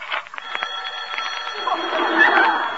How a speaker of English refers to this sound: What's that? It's the phone ringing. Well, answer it.